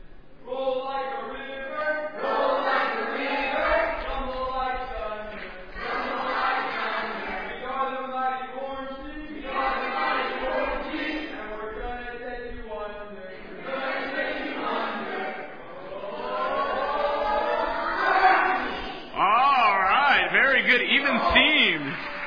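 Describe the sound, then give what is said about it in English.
The orange team shouts its first team cheer in unison, a run of loud, rhythmic chanted bursts with brief breaks between phrases that builds to a final raised shout. “They're going to do a cheer with you. This is your first team cheer.”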